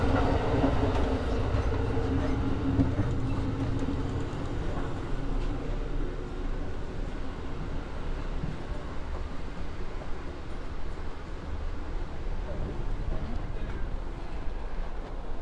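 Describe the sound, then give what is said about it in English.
An Amtrak passenger train car rolls steadily along the rails, giving a continuous low rumble with a hissing wash above it and faint rattles, holding an even loudness throughout with no voices. “It's an unusual dining car from what we've seen on Amtrak.”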